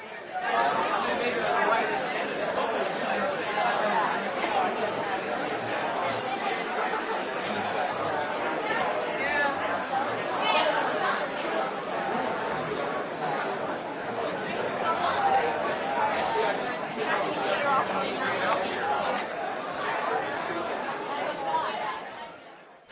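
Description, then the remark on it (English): A steady wash of crowd chatter, many overlapping voices murmuring and talking at once with no single voice standing out, holding an even, fairly loud level throughout before cutting off at the end. “I know, I left in that last 30 seconds of crowd noise in there just to see if all you were thinking, is there more?”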